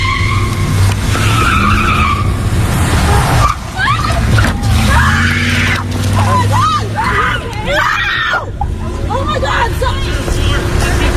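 A truck speeds by very fast with roaring engine and tire noise, hits a woman at a protest and speeds away, then several people break into loud, repeated screams and panicked shouting over the continuing traffic rumble.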